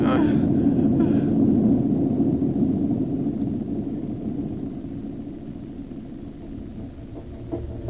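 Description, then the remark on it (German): A car with children aboard speeds along with a steady, loud roar of engine and road noise, the rumble holding constant and easing off only slightly toward the end. “Ich krieg schon Angst, weil ich euch mit dem Auto mitgenommen habe.”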